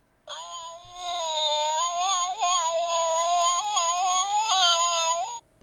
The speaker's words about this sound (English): And the sound of cats fighting.